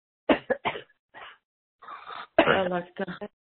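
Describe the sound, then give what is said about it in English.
A series of forceful coughs in quick bursts, with a raspy throat-clearing sound partway through and a couple of final harsh coughs, no talking. “That's great if you cough it, it's like the body wants to cough it out.”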